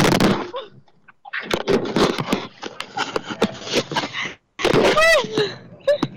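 A microphone clatters and thumps as it is dropped from cold hands during a broadcast in Nashville, Tennessee, producing a burst of sharp knocks, scrapes and rustling handling noise, with a brief gap of silence before more rattling and a squeaky pitched sweep.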